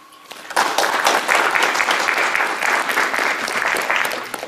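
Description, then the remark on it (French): An audience breaks into steady applause after a brief quiet start, many hands clapping in a dense, even patter that stays loud and sustained for about four seconds. “Et ça, je pense que ça s'applaudit.”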